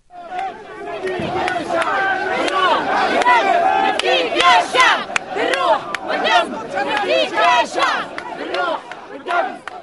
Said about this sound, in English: And the protesters are marching now towards the riot police, shouting slogans like liberty, freedom for Tunisia, calling on the remaining members of President Ben Ali's party, the ousted president, to leave the country.